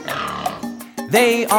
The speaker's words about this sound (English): There's a pig on the farm with her two little piglets.